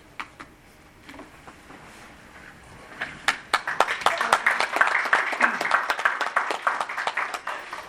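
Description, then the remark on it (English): Audience applause after an oath of office for a district office in Franklin County, Ohio: a few scattered claps at first, then a dense crowd of hands clapping swells in at about three seconds and continues steadily and fairly loud until the end. “I was getting ready to say, what the hell, folks, you can clap.”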